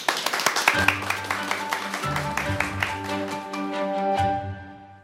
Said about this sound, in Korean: 첫 번째 강연 박수로 청해 듣겠습니다.